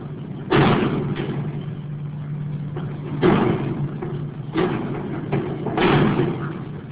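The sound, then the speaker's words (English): A wind-blown loose sheet of tin roofing slams again and again into a building's wooden rafters in a tornado-damaged town on a Sunday, loud irregular metallic bangs a second or two apart over a steady low background hum. “Even after the service, just about the loudest sound in town was a wind-blown piece of tin roof slamming over and over into the building's rafters.”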